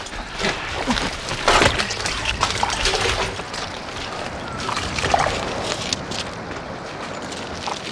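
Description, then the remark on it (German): Heavy water sloshing and splashing continuously as two people wade through deep water toward a rock, with steady churning strides, fairly loud, with no voices. “warteten durch das hohe Wasser zum Felsen.”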